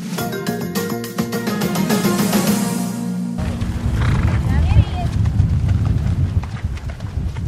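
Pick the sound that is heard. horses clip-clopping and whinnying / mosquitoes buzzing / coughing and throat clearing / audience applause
horses clip-clopping and whinnying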